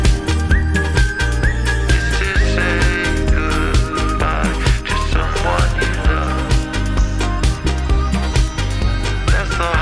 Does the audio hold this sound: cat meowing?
no